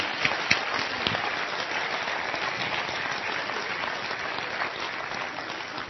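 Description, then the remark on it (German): A crowd claps steadily for several seconds, a dense, even wash of many hands with a few sharper individual claps early on, sustained at a fairly constant level throughout. “Klatsch habt ihr, glaube ich, schon mal, aber das können wir trotzdem nochmal machen.”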